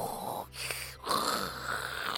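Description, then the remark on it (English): A person makes a breathy, rasping vocal whoosh meant to imitate sea waves, rising and falling in two surges with a brief pause between, ending up sounding more like snoring. “That doesn't sound anything like sea, does it? That sounds more like snoring.”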